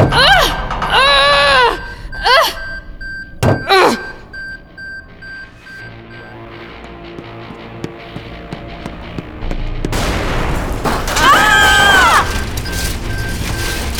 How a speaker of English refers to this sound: That sounded like an explosion. More like a fireball.